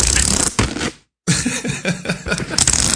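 Loud crinkly tearing and rustling of paper towel being pulled from a roll on a paper towel holder, in scratchy bursts broken by a brief moment of total silence, with no voices.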